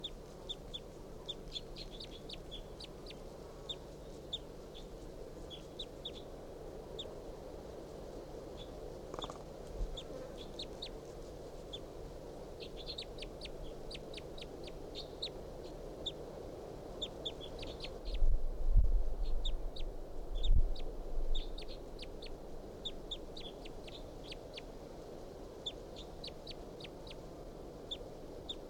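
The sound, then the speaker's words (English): Soft, high call notes from a wild bird repeat steadily throughout, faint chirps and clucks over a low background hum, with a brief louder rustle near the end. “Song now about the wild bird.”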